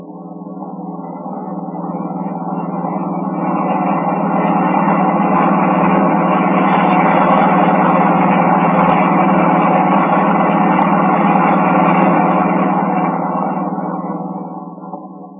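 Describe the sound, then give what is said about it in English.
A car starts up again and its engine drones steadily while driving on for about a mile, a continuous rumbling hum that swells in, holds at a fairly loud level for several seconds, then fades away. No voices. “Car starts up again.”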